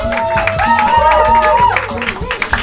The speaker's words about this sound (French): Applaudissez-les s'il vous plaît.